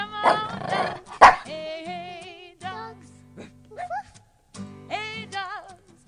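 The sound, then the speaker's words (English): A hound dog lets out a couple of loud, sharp barks, then a string of wavering, yowling bays over a low rumbling growl, with brief pauses between outbursts. “The Sound Hound is here.”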